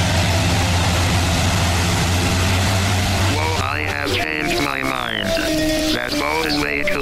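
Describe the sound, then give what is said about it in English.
A hovercraft engine runs with a loud, steady low droning hum that fills the first half, then fades as warbling, wavering voice-like sounds take over. “That's a hovercraft, mate.”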